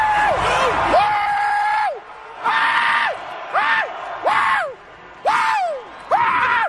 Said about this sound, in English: It's kind of what I do to just kind of let it out. Scream in a pillow. Pretty much.